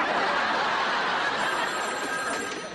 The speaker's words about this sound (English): Hello. Is that a phone?